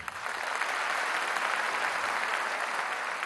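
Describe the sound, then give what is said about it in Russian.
An audience claps steadily while the musicians of a folk instrument ensemble (balalaika, gusli, domra) are being introduced, a dense, even wash of many hands that holds at a constant loudness for the whole stretch, with no voices rising above it. “Вы дайте мне говорить, потом хлопайте.”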